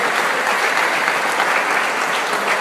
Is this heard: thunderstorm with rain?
no